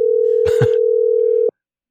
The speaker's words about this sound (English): I'm calling on WhatsApp, so I don't know. I guess they'll just keep ringing forever. I'll give it a couple more rings. Yeah, it does ring a lot.